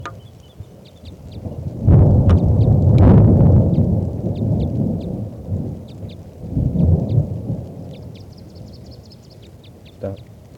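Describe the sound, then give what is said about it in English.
Deep rolls of thunder swell and fade twice over steady rain hiss during a storm that has lasted about an hour and a half, with a sharp crack near the end, while faint high chirps repeat in the background. “Recording is starting to rain now, and this is still that female.”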